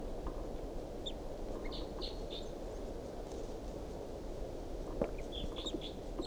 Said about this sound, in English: The bird is unseen by me now. It's up in the top of this tall pine above the truck, pointed up at the wild bird. Wild bird calls, responds by decoys.